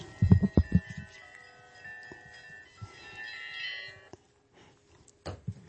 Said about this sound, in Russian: Прошу прощения, это у меня зазвонил сотовый телефон, у меня он звонит как церковные колокола, и тут уж я виноват, сегодня так бегом опаздывал, что забыл отключить.